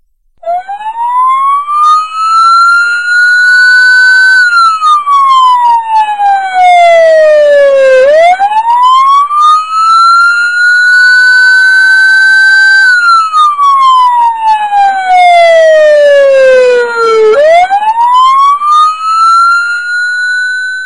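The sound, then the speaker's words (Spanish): An ambulance siren, about 120 decibels, wails loudly and continuously, its pitch sweeping slowly up and down in long cycles, dominant with no other sounds competing. “La sirena de una ambulancia.”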